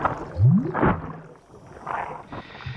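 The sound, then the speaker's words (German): A wet, gurgling growl with a rising moan from a formless creature slowly rolling in from a distance, followed by rasping, bubbling breaths and squelches, fairly loud, with no voices. “Röchelnd, blubbernd, ohne Form.”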